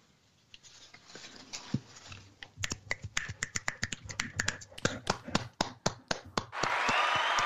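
A scattered run of sharp, crisp claps or snaps builds in an uneven rhythm, then gives way at the end to a dense, steady wash of applause with no talking.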